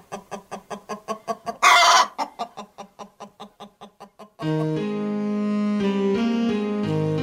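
Egg-laying chickens cluck in a quick, steady run of short pulses, broken by one louder, harsher squawk, before the clucking gives way to sustained, chord-like music.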